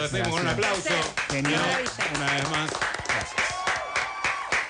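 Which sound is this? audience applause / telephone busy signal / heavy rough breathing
audience applause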